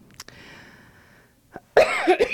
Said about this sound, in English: Pardon me. Pardon my coughing in your ear.